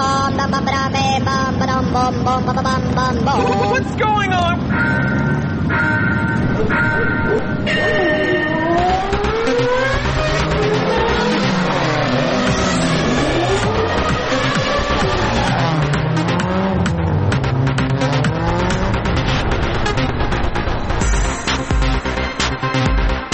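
Race car engines rev loudly with repeated rising and falling pitch sweeps, layered over a dense, busy musical backing that runs continuously for the whole stretch.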